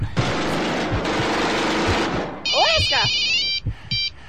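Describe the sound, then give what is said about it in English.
A burst of loud, rapid gunfire-like noise gives way to a telephone ringing: a shrill, trilling electronic ring, then a short second ring, clear. “You want to pick up the phone?”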